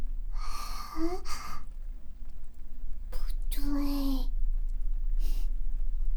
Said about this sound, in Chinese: 这个呼吸声，你该不会是在做坏事吧？